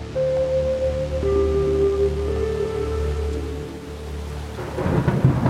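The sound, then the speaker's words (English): Heavy, freezing rain pours down hard and steadily with a dense hiss at Camp Devens, an army camp, joined by deep rumbling thunder and low tonal hums, with the downpour swelling louder near the end. “The rain comes down hard, and it's freezing.”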